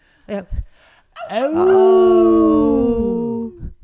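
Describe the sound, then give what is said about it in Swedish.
A group of people howl together in imitation of wolves before a closing song: a few short yelps, then one long, loud, overlapping howl that swells, holds and slowly falls away. “Jag tycker nu att innan vi avslutar med den avslutningslåten att vi yllar allihopa.”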